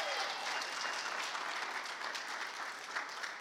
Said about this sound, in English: Good morning. Wow, that was resounding. I love it. Let's give God another hand clap of praise this morning.